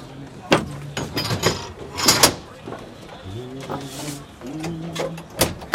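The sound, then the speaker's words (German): A ferryman chains up his Rhine ferry at Kleinbasel, Basel, and shuts its door and gate: several sharp clanks and thumps in the first two seconds, followed by quieter murmuring voices in the background. “kettet seine Fähre an, schließt Tür und Gatter und macht sich auf den Heimweg.”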